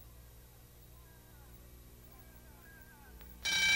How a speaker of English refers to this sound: When this alarm clock goes off, McFeely will be here.